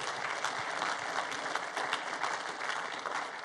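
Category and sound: crowd, audience applauding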